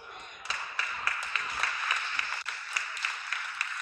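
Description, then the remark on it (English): Applause from a small crowd that does not fill the room, with one man clapping much louder than the rest, sharp regular claps standing out above a thin, steady patter of other hands. “One really loud guy clapping there.”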